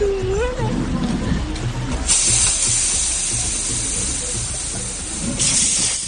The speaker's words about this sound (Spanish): Los hechos ocurrieron en una zona del distrito de Puente de Vallecas y le estaba grabando un compinche mientras él pues fue a un coche patrulla de la Policía Municipal y con una navaja en mano pinchó las dos ruedas. Bueno, este era el momento.